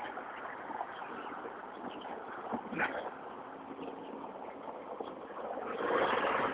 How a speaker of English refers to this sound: Cars everywhere. I'm going to step well back. Let the cars do what cars do. There we go.